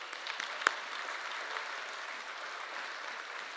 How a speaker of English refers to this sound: Let's give her a hand.